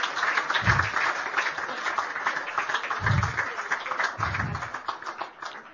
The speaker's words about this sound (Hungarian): Tapsoljuk meg őket is.